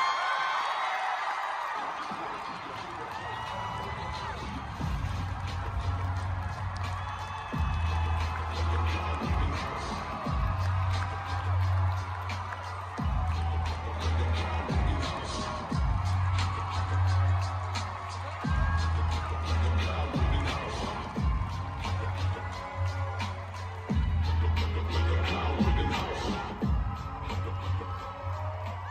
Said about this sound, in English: The crowd loved him. You heard chanting, "Kyle, Kyle."